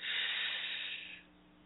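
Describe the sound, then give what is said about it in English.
A long, steady intake of breath during a breathing exercise, a soft airy hiss that holds for over a second before fading out, with no talking. “One more time before we get into this week's lesson. Inhale.”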